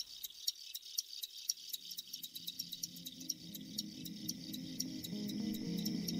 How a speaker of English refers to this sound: In my opinion, the sound of a chorus of crickets is rivaled only by ocean waves or wind through aspen trees. There are a number of reasons they do this. It's the males who do this.